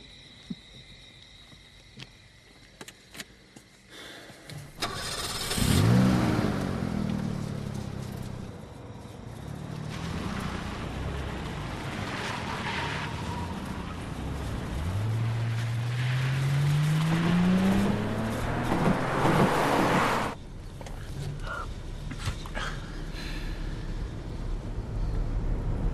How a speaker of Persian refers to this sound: تو هم شنیدی؟ چیا؟ فکر کنم موتور ماشین یه صدایی داد.